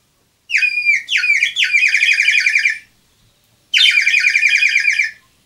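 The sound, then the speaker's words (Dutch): A bird sings loud in two bursts of rapid, trilling notes, the first phrase longer and the second after a short pause, with no other sounds around it. “Dat is een vogeltje.”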